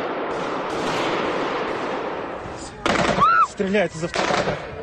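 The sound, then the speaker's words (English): Automatic machine gun fire, from gunmen shooting at a concert crowd at Crocus City Hall in Krasnogorsk, west of Moscow, Russia, rattles in a dense, rapid, continuous stream for about three seconds, then gives way to loud shouting voices, with bursts of noise still breaking through. “In this eyewitness footage, a man can be heard saying, "They are firing from a machine gun. They are shooting the crowd."”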